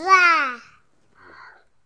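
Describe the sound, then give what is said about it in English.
A young child imitates a lion's roar with one loud, voiced cry that slides downward in pitch, then a quieter, breathy follow-up sound after a short pause. “It's a lion. Lion noise. Can you do a noise as well?”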